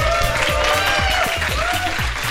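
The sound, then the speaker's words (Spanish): Loud, steady applause from a crowd, a dense wash of clapping that holds its level for a couple of seconds, with faint tonal sweeps and low rhythmic pulses underneath. “Va a recibir un gran aplauso de su parte.”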